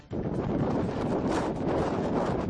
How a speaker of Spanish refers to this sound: En este momento estamos muy pendientes del temporal de viento, de lluvia, que tiene a 35 provincias en alerta. Así suena el viento en este momento en la Costa de la Muerte.